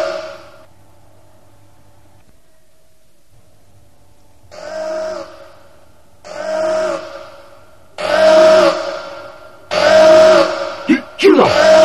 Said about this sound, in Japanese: サイレンを止めろ。これ以上はご近所の皆様にご迷惑だ。